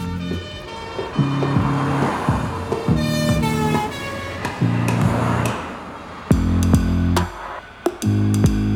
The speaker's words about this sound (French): L'instant d'après, les policiers l'embarquent dans une voiture qui part en trombe, toute sirène hurlante.